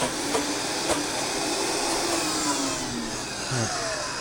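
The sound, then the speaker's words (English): A blender whirs steadily at high speed, blending tomato with saffron-infused water, a loud, continuous roar of motor and churning liquid that holds for the whole stretch with no voices. “Okay, and I'm going to start this on low.”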